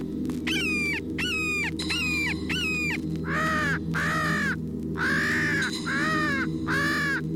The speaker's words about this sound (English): Hawk and crow distress cries.